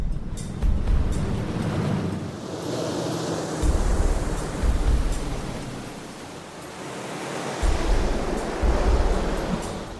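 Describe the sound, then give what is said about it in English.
Broad rushing water noise with rhythmic surges as water washes over a kayak whose cockpit is sealed and taped and whose plug is left open, swelling and receding roughly every few seconds, fairly loud with no voices. “And we're going to have the water come over the kayak and see just how much water goes into the plug.”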